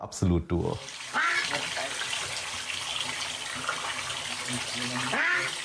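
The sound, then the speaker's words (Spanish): A tap pours steadily into a bathtub for a duck named Zelda, a continuous hissing rush of water that runs through nearly the whole clip, preceded by a brief voiced call at the very start. “Y acá le abrimos el chorro de agua y enloquece.”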